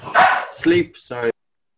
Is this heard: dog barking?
yes